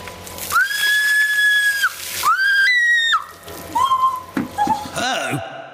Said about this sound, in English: Also, she screamed before the water hit.